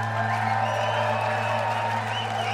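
An audience applauds and cheers in a steady, continuous wash of clapping and crowd noise, with a few faint whoops rising over it and a low electrical hum underneath.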